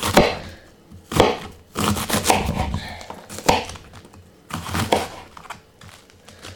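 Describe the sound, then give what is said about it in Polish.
A knife chops through Chinese (napa) cabbage in a run of sharp, crunchy strokes, some in quick pairs, with brief pauses between bursts of cutting. The cabbage is cut to add to a bowl of noodle soup. “Wrzucam znowu kapustę do tej miski z zupkami, z makaronem. Jeszcze dokroję troszeczkę.”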